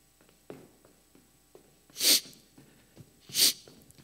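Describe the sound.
Two sharp, breathy sniffles about a second apart from a person acting dejected, with quiet room noise and soft breaths in between and no talking.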